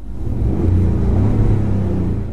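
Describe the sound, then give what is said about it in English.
The electronically enhanced engine sound of a Ford F-150 pickup truck, heard while driving down the road, drones with a steady, deep rumble, holding a low hum throughout at fairly loud level, with no voices over it. “This is the real actual sound of a Ford F-150. Here you go. All right, quick and dirty. Here is the sound, enhanced, if you will.”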